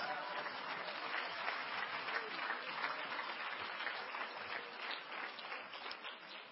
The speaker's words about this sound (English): Clap your hands a minute unto the Lord Jesus before you're seated.